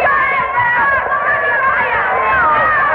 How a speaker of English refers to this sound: Well, now the crowd is teasing the Confederate prisoner good-naturedly. These northern spectators are magnanimous in their feeling of victory.